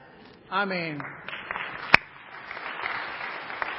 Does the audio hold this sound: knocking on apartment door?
no